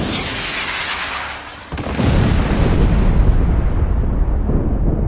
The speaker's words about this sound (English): And there were noises, thunderings, lightning, and an earthquake.